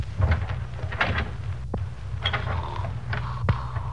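A door to the room where Moran is sleeping being opened by FBI agents, with a creaking, mechanical scrape and a couple of sharp clicks over a steady low hum. It sounds moderately loud, and no one speaks.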